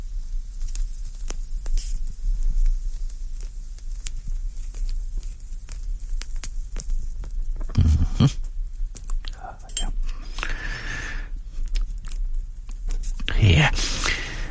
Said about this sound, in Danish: Nu skal jeg lige have ild på cigaren, så skal jeg være der.